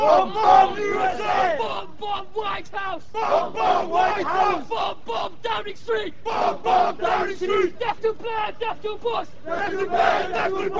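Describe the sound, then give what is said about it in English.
A large crowd of about 500 men, members of the radical movement Al-Muhajirun, shouts together in loud, rhythmic bursts, their voices rising and falling as they chant a response in unison for several seconds. “The crowd of about 500 men answer.”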